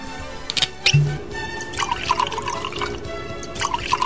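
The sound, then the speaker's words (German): Red wine from a freshly opened bottle is poured into glasses, a steady gurgling trickle with a couple of brief clinks near the start and no one talking. “Also ich schenke jetzt mal ein.”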